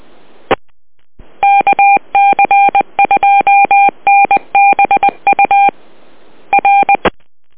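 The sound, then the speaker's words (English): A rapid string of loud touch-tone dialing beeps, short dual-tone pips in quick clusters separated by brief pauses, with a little static hiss and clicks at the start and end. No one speaks. “Give him a phone call, eh?”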